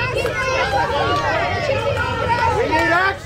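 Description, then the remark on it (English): An outdoor crowd outside Sacred Heart Catholic Church in Uvalde, Texas, shouts "Do something" together in a dense, overlapping roar of many voices at President Biden and the First Lady after Sunday mass, sustained and loud throughout, with individual calls rising above the din. “As that crowd yelled, "Do something," President Biden told them, "We will."”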